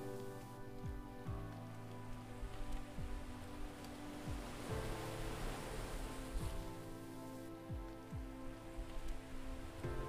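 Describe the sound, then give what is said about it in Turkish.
Gentle waves lap in a steady, soft wash of water sound, with a calm sustained musical drone underneath and faint low swells recurring every second or so; no one speaks. “Şimdi sadece kulaklarına uysal dalgaların sesi ulaşıyordu.”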